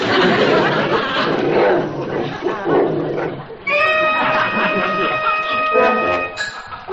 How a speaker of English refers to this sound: Look, isn't that sweet? The doggie's begging, too.